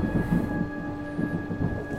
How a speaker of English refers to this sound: Yeah, gives the room a creepy feel as the lightning goes and you hear the thunder shortly after.